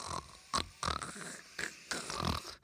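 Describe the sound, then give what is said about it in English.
A person imitates the contented 'good snort' of Pippa, a pet dog, with a series of five or six short, breathy, grunting snorts, fairly loud, separated by brief pauses. “Actually, so instead of just replaying, can you just give me a good snort from Pippa?”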